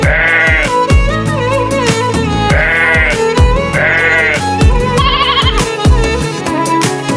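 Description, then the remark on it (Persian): Quavering lamb-like bleats repeat every second or so over a busy, rhythmic musical backing, each wavering cry rising clearly above the steady beat. “بیا ناز نفست ببعی بخون صدات شبه سپیر خرسه است، نوازش میده به قلبم.”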